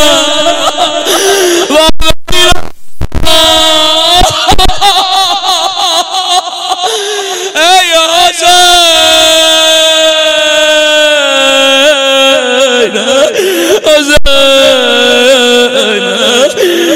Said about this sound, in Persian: چرا بعضی ها اینجوری گریه میکنن؟ مگه هنوز چیزی نگفتم؟